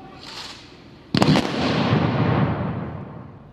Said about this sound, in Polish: Chwała bohaterom! Salwa honorowa!